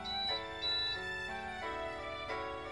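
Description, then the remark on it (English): An electronic alarm-like tone plays alone, a string of sustained, bright beeps that step between pitches in a steady, melodic pattern, fairly loud and unbroken for a few seconds. “I almost jump at the sound of electronic beeping.”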